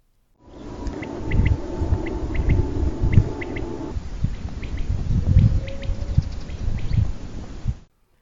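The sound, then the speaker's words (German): Quail calling at sunset in repeated short, high triple-note phrases ('Pickwewick'), sharp chirps spaced in a steady rhythm over a low rumbling background with a faint steady hum at first. “Wenig später werden wir von einem grandiosen Sonnenuntergang verwöhnt, schön begleitet durch das beruhigende Pickwewick, Pickwewick, Pickwewick der Wachteln.”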